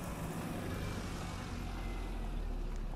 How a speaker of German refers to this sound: Auf dem Parkplatz nebenan hält ein Auto.